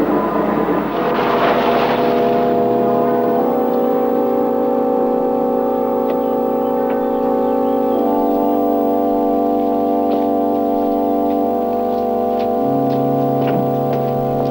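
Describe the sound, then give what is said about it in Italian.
Engines hum steadily, their tones shifting and settling as cars roll in at a gate and slow down, with a brief whoosh of air near the start and no voices. “Sta arrivando, sta arrivando. Prima è arrivato al cancello, passo. Ricevuto, passo. Le macchine nel pialone, passo.”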